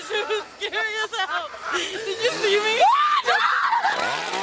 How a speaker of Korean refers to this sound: 귀신 배우들의 훌륭한 연기 탓일까요? 방문객들은 여기서도 저기서도 비명을 지르며 도망을 다니는데요.